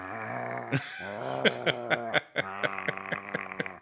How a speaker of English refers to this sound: And it's doing the weird like cat growl too, where it's like clearly getting pissed off that it can't catch the other cats.